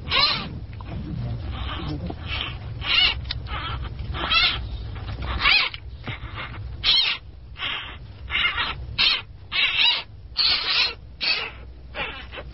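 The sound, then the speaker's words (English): A blind, helpless newborn giant panda cub, about 4 ounces, squeals and squawks over and over, loud shrill cries in quick, uneven bursts with short gaps, continuing throughout with no one speaking. “Perhaps in part to prevent an accidental crushing, the infant panda wields a voice out of all proportion to its body.”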